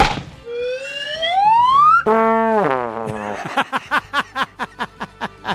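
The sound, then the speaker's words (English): A sound sting, the third 'blue pit', still a work in progress: a buzzy slide whistle slides steadily upward for about two seconds, then a brassy trombone-like tone glides down, followed by a quick run of about ten short, punchy pulses. “Slide whistle up and then trombone down.”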